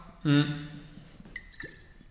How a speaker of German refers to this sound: Ich nehme jetzt ganz kurz nur einen Schluck Wasser.